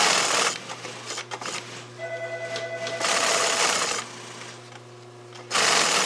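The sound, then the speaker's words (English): A sewing machine at the manufacturer Nomar runs in loud, rapid bursts, stitching several layers of sewing into the seams of a heavy Brailer fish bag, with a steady mechanical hum and whine carrying on between the bursts. No one speaks. “It's got several layers of sewing on these seams because of that picture.”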